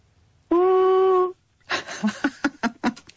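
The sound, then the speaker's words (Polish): Over a phone line on the radio show Radionauci, a child's voice imitates an elephant trumpeting with one loud, steady, high-pitched blast lasting under a second, then a run of short, breathy bursts like giggling. “czy jesteś gotowa, żeby zrobić odgłos słoniowy?”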